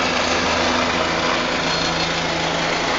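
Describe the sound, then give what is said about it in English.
A helicopter takes off at a game with a loud, steady engine roar and a high whine, low rotor hum droning underneath throughout, with no one talking. “And then Grant Thur, as the helicopter takes off, Grant Thur is South Central in the Chess Wales Memorial Scholarship.”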